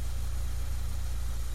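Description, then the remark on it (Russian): A car engine, just started by a young woman who then shifts into reverse, idles with a steady, low rumbling hum that holds an even level throughout, uninterrupted, with no voices present. “Девушка быстро поправила сиденье автомобиля, завела мотор и включила заднюю скорость.”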